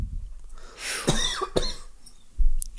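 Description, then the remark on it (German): A couple of sharp, raspy coughs in quick succession, moderately loud, followed by a short throaty sound. No one speaks. “Da hustet gleich jemand.”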